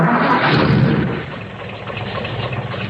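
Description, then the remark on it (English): The engine of car 119 runs with a heavy, rough rumble, surging loudest in the first second before settling into a steady, slightly quieter drone, its temperature gauge almost up to boiling. No voices are heard. “Better turn off the engine and have a look,”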